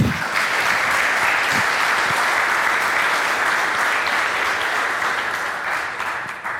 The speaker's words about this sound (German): Vielen Dank für den Vortrag. Ich würde erstmal einen Applaus geben lassen.